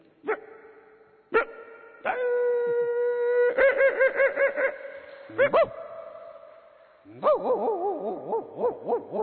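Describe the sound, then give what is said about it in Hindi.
A thin dog in a street lane, asserting itself at animals passing through: a few sharp barks ring out, then a long wavering howl rises and falls, followed by more yelping and a second quavering howl, all fairly loud with no other noise around. “कहीं पे गधा खड़ा है, डोंकी, जब ऐसे जानवर गली में से जाते हैं, गाड़ी भी जा रही है तो गली में पतला सा कुत्ता है जो अपनी दादागिरी कर रहा है कि हमारी गली में आने की हिम्मत कैसे की।”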